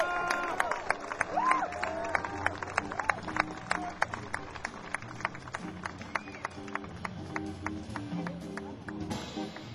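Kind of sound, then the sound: crowd, audience applauding and cheering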